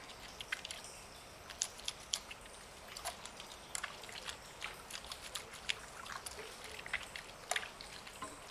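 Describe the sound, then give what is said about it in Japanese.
Quiet wet whisking of shampoo into a lather, a steady stream of soft crackling clicks and squishy bubbly pops with a few sharper taps, no voices. “そうしたら今度は泡立てて、シャカシャカシャカシャカっと。”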